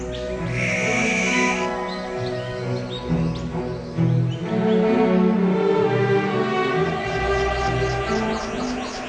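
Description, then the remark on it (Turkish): Several birds call and sing together in a dense, continuous chorus, with bright chirps and whistled notes overlapping throughout, fairly loud, with no talking. “Sürülerindeki diğer üyelerle, komşuları veya aile bireyleriyle iletişim kurmak için çok çeşitli sesler çıkarırlar.”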